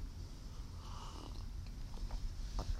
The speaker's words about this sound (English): Gonna take a sip of my RC.